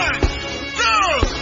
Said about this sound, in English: When I say the name of Jesus again, you place the hand on your head and scream, I receive at the top of your voice. I say the name of Jesus, 1, 2, 3, you scream, I receive at the top of your voice.